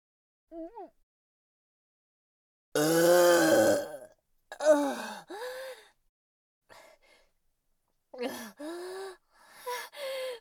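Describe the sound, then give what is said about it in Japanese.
A series of voiced burps: a faint short one, then a long loud croaking belch, followed by several shorter gulping burps in uneven bursts, with no speech. “私のゲップ、見られてしまいました。”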